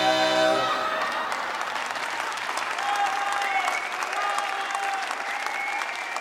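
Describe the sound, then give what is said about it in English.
Sustained crowd applause for the Orioles quartet at a quartet send-off sponsored by the Chorus of the Chesapeake, a dense wash of many hands clapping steadily and loudly, beginning as the quartet's sung chord fades out at the very start. “When the applause finally ended”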